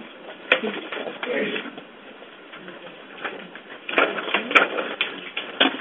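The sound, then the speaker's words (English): Sheets of paper rustle and shuffle in irregular bursts as paper copies of evaluation criteria are passed around, a few sharper crinkles standing out, with faint murmur underneath. “I know I tried to pass that out as individuals came in the door, but if you are missing it, we have copies here. I'll just pass some.”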